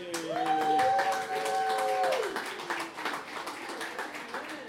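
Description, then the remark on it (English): Audience applause at a songwriters event in Reading, a dense patter of many hands clapping steadily throughout, with a sustained high whistle or cheer rising over it for the first couple of seconds before fading. “It takes a special kind of crowd, and I think you guys got to give yourselves a hand because you're turning into one.”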